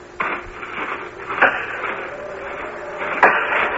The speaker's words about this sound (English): Those men over by the pile of logs chopping wood.